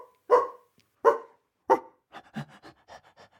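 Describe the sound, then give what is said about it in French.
Three loud dog barks at a steady pace from Doug, a small, chunky pet dog, then a run of quicker, softer barks and excited yips from the same dog, with no talking. “Doug, son petit lourdeau de chien, accourt et vient se frotter contre ses jambes.”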